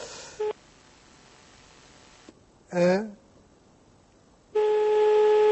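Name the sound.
telephone ringback tone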